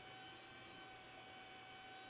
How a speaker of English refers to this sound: Hey, that's a vacuum cleaner over there? Nah, that's my computer about to blow up and take off. You hear it? Yeah, I hear it. Yeah, I be, man, this computer be in triple overtime.